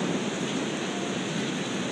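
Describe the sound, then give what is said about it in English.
Heavy rain pours down on a moving day in a dense, unbroken hiss, steady and fairly loud throughout, with no voices or other sounds breaking through. “Unbelievable rain.”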